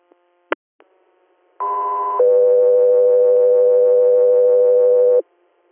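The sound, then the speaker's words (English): A short click, then two steady electronic radio dispatch alert tones in sequence: a brief higher tone of about half a second followed by a long, lower sustained tone of about three seconds, loud and clean with no voices. “Air, stand by for tones.”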